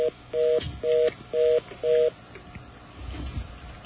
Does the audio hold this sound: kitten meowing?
no